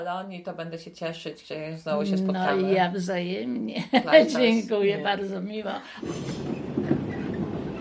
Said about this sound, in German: Ich sitze im Zug zurück nach Köln.